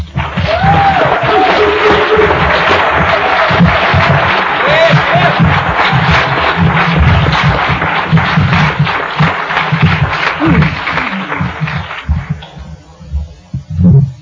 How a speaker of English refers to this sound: I just love having people clap for me. You know, they introduce me and everybody starts clapping. I don't know why.